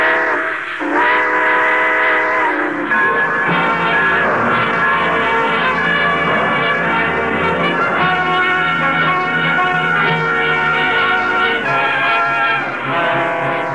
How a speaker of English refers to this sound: All aboard! Folks, it looks as though we're ready to pull out.